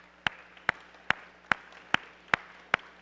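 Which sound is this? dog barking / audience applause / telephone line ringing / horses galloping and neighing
audience applause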